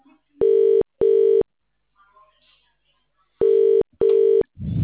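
A telephone busy signal sounds as four short, loud, steady electronic beeps in two pairs, with a quiet pause between the pairs and a muffled noise right at the end.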